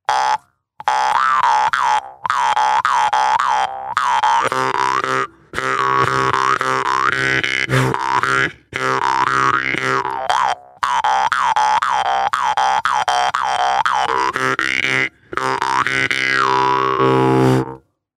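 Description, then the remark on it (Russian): A jaw harp is played plainly, without breath, twanging steadily, its buzzing drone sliding through shifting overtones in a run of phrases separated by brief pauses, with no voices. “А вот обычный, без дыхания.”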